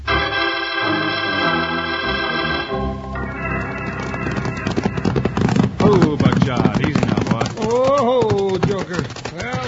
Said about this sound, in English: After hours of hard riding, Wild Bill and Jingles pulled their lathered horses down to a walk at the edge of the dusty cow town just in time to become involved in the Sunnyside Scrap.